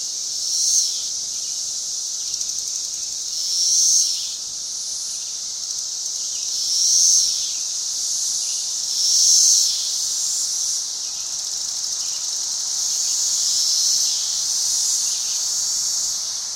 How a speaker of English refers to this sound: Many people listening to this have never heard a cicada or seen one, maybe. Okay. Could you share like a short clip of just a raw field recording for people to hear that?